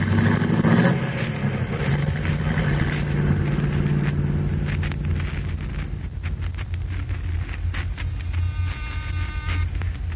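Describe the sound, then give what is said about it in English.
A car engine turns over and catches, then settles into a loud, steady low rumble as the car pulls away, with no voices, just the continuous drone of the motor. “Here's my car. Get in, gentlemen.”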